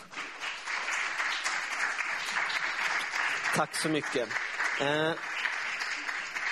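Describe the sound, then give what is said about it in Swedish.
A crowd applauds steadily, dense clapping filling the whole stretch, while a couple of short spoken phrases cut through near the end; the applause greets a few people coming forward to read Philippians chapter 3. “Så kan inte ni komma fram allihopa, ni kan ge dem en applåd också.”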